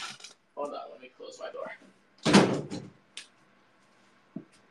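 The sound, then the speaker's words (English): A bedroom door is pushed shut with a loud, rattling thud, followed by a couple of softer clicks as it settles. Brief muffled talking comes just before. “Hold on, let me close my door.”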